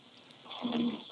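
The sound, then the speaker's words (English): A person straining and grunting on the toilet, heard through a caller's cell phone on the DJ New Style Show radio call-in: one low, growling grunt that swells and fades within about a second, fairly quiet, with no talking. “It sounds like someone's shitting. It is. This is somebody shitting.”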